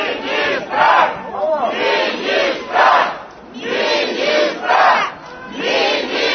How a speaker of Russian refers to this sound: Натовп кричить, потребує міністра.